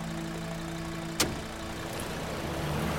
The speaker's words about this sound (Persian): فرهاد شیرزادو میرسونه جلوی قرارگاه. شیرزاد از ماشین پیاده میشه.